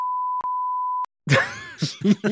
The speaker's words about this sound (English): And I'm going to bleep this again for effect.